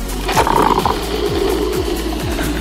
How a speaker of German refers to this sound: Kaffeemaschine läuft auf Hochtouren.